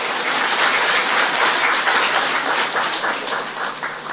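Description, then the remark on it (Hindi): An audience applauds the speaker steadily for about four seconds, a dense, even wash of many hands clapping at once, fairly loud, with no voices over it. “तालियां बजाओ ना जरा मेरे लिए।”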